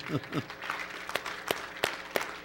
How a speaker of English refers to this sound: We're going to clap for you both.